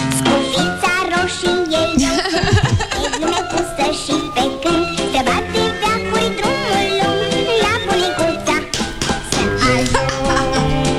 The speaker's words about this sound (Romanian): efectiv când a intrat pe ușa studioului a început să cânte pe fundal melodia asta.